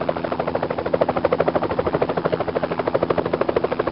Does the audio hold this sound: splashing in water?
no